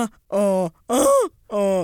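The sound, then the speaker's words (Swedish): A person imitates groaning, three drawn-out voiced groans with a strained, nasal quality, each rising and falling in pitch, separated by brief pauses. The first and last are slightly lower, the middle one higher. “Så hur låter ditt stön då?”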